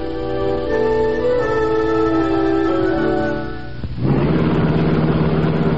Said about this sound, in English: The sleek black car of the Green Hornet slid through the darkened back streets of the city like a purring shadow